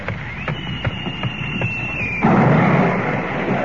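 A thin, high whistle hangs in the air for about two seconds, then a loud, broad blast erupts and rumbles on to the end: a shell fired across a ship's bow, landing in the water.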